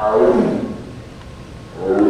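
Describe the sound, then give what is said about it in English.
A female Sumatran tiger, Demai, at the Smithsonian's National Zoo in Washington, D.C., lets out two deep, drawn-out roaring bellows in the early morning, the first fading away before a second swells up at the end, with no talking. “That bellow we usually hear when the female tiger is cycling, when she's in estrus.”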